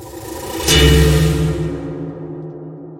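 A distorted, detuned synth chord hits suddenly with a gritty burst, then sustains with a faint wavering tremolo and slowly fades into a long reverb tail, processed with Crystallizer and Echo Boy effects. No one speaks.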